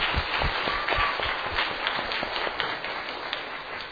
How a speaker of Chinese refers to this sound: 我们应该把掌声归给他，是不是？来，我们一同把掌声归给他。